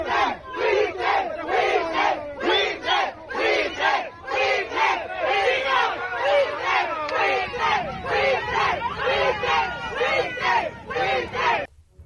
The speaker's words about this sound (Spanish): ahí se ve al funcionario saliendo de las instalaciones de la escuela mientras decenas de personas lo enfrentan. Vamos a escuchar un poco de cómo le gritaron a José Ramiro López Obrador.